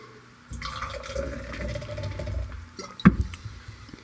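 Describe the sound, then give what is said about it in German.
Water pours steadily into a glass for a couple of seconds, fairly clear, then stops with a sharp knock as the glass is set down. No one speaks. “Ich glaube, ich muss mit Wasser noch spielen.”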